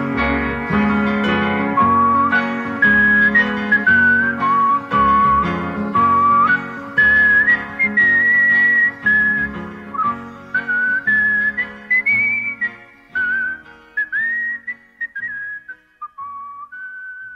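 A folk tune is whistled loud and clear, its sustained notes stepping up and down in a lilting melody over a steady instrumental accompaniment, with no one speaking.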